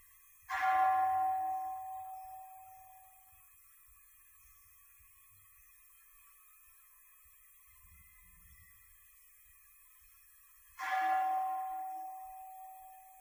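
A meditation bell is struck twice, about ten seconds apart, each strike ringing out clearly and then slowly fading into near silence between them.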